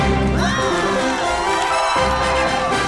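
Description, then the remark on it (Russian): A studio audience at the radio station Komsomolskaya Pravda applauds a chief editor guest. The clapping is loud and steady for about three seconds, with cheering and high-pitched whoops rising above it. No one speaks over it. “Вот у нас такие аплодисменты только для главных редакторов.”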